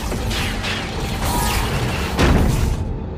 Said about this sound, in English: Together with IG-11, they all retreat inside and the door closes behind them.